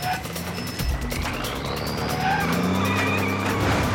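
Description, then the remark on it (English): A landing truck's engine roars steadily as it is driven, while its tires squeal and skid in drawn-out, rising whines, with a whirring hum underneath, loud throughout and with no talking. “It chases after the truck, being driven down below.”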